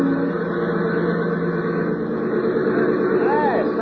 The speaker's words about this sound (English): airport about a mile from the hotel and sounding as though she was in trouble. A little trick of thinning out the mixture that I showed her. And then she'd be coming in for a landing, taxiing over to the hangar.